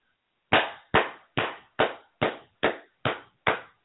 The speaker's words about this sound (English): I'm just clapping.